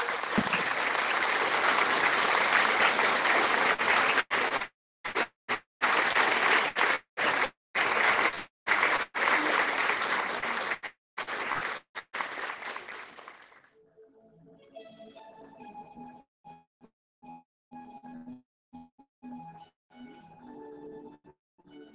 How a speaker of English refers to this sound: Acclamons pour le Seigneur Jésus. Oui, acclame, acclame, acclame. Très fort, ma soeur, mon frère. Applaude, applaude pour le Lord Jésus.